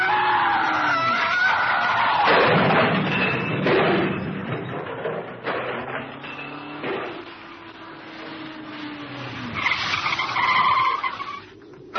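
A car engine roars and strains, then tires screech in long wavering squeals as the car swerves on a narrow road to avoid an oncoming car and skids over the edge, ending in a rough scrape and clatter. No one speaks.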